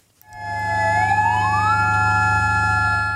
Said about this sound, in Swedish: 9 minuter före 1 på eftermiddagen, det klockslag som jordbävningen inträffade, ljöd sirener i Mandalay för att markera starten på en tyst minut.